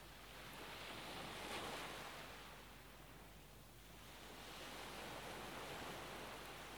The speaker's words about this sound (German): Die Wellen wiegen dich sanft.